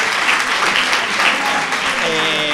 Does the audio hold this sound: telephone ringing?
no